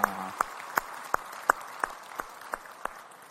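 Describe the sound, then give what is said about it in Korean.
A church audience claps together as praise to the Lord, in a steady, even rhythm, about ten sharp claps at a brisk pace, fairly quiet and with no voices over it. “우리 찬양받을 주님께 영광의 박수 올리겠습니다.”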